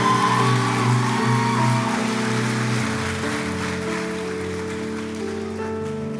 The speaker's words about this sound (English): Would you stand to your feet in this room at Echo? Come on, would you give God a hand clap of praise?